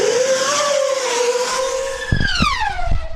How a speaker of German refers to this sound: Bei Testflügen hat eine Hochgeschwindigkeitsdrohne mit dem Namen Blackbird einen Rekord aufgestellt.